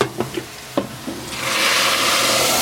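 A few light clinks and knocks of a frying pan, then a loud, steady sizzle of a fat-and-flour mixture poured over meat, with no water yet added, that swells up and hisses continuously as the pan is swirled. No one speaks.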